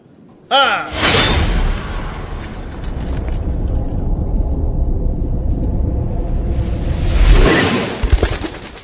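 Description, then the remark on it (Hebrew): A loud rushing whoosh of an arrow flying back toward the speaker bursts in, sustains as a roaring, airy rumble for several seconds, then swells again near the end before a couple of short knocks. “החץ חזר לכיוון שלי.”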